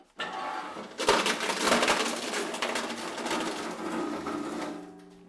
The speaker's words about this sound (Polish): Już wyselekcjonowany w taki duchu pogłębionej segregacji wkładamy do shredera i zaraz włączymy shredder. Jest przy tym trochę huku. Tak, trochę huku. I te opakowania teraz będą mielone, tak? Tak, teraz mielimy ten właśnie odpad.